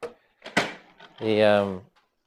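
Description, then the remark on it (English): A couple of sharp knocks and clicks, then a drawn-out creaking squeal as a chair is unhooked and shifted, with no talking over it. “That, let me just unhook that chair.”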